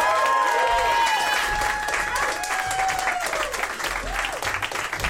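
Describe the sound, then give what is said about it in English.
A crowd applauds loudly and steadily, dense clapping filling the whole clip, with high whistles and cheering voices rising above it. “Keep clapping. Yes. I demand it. And clap with some zest, too.”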